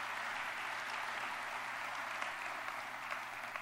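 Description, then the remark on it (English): An audience applauds Tim Clark, the Buffalo Niagara Film Commissioner, on his election as chair of the association: a dense wash of many hands clapping at an even, sustained level with a few sharper claps poking through, and no one speaking. “Let's give Tim Clark a round of applause.”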